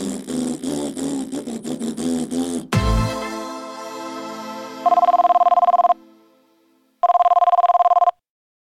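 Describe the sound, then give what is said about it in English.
A telephone rings twice with loud, buzzy electronic bursts separated by a short pause, and no one picks up. A whirring, engine-like hum and a dull thump come just before. “Where are you, Shyster? Answer your stupid phone”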